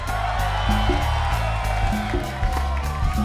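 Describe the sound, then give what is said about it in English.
A concert crowd applauds and cheers in a steady, dense roar with scattered whoops as the band members are introduced on stage, while the band keeps playing underneath with stepping low bass notes. “Round of applause.”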